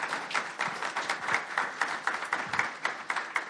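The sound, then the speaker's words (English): An audience applauds the panelists at an event in Rhode Island: Department of Education Deputy Commissioner Lisa Odom Vallela, Central Falls Mayor Maria Rivera and Post-Secondary Commissioner Shannon Gilkey. The applause is a steady wash of overlapping claps, moderately loud and sustained for a few seconds without fading, with no voices over it. “Let's give our panelists a quick round of applause.”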